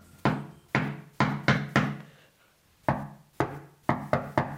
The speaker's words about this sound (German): etwas schneller anklopfen. Also, ich klopfe eigentlich relativ schnell manchmal, obwohl eigentlich, glaube ich, langsam klopfen ist, glaube ich, besser. Anklopfen im Takt.